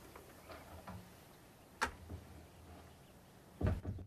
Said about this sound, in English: She closes the door behind her.